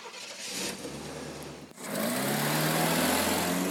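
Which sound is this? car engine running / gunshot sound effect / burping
car engine running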